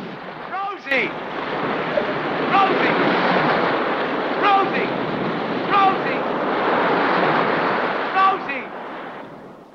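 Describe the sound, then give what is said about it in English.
A huge ocean wave crashes down on Rose and Allnut clinging to the keeled-over boat African Queen, roaring in a loud, continuous wash of churning water, with brief shouting voices breaking through the surge now and then. “A huge wave crashes down on Rose and Allnut, and as the water clears, Rose has gone.”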